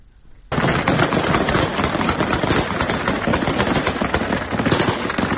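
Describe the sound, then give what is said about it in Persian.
Dense, sustained bursts of heavy gunfire erupt after a brief quiet moment, a rapid, continuous rattle of many shots overlapping for several seconds, loud with no voices; Taliban fighters shooting in Afghanistan's capital to disperse protesters. “با ادامه یافتن اعتراضات علیه طالبان و پاکستان در روز سه‌شنبه، تصاویر منتشر شده در شبکه‌های اجتماعی از تیراندازی شدید طالبان در پایتخت افغانستان به منظور متفرق کردن تظاهرات کنندگان خبر می‌دهد.”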